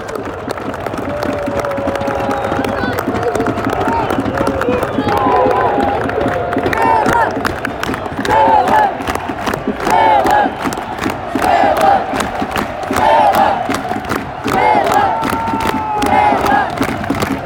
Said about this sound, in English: Crowd are animated, 88 minutes on the clock